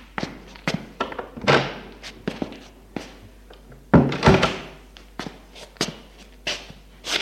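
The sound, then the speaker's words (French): A bedroom door on an upstairs landing being opened: a series of sharp clicks and wooden knocks from the handle and latch, with a couple of heavier thuds and a rustling scrape as it swings. No one speaks. “Elle ouvre la porte et elles entrent.”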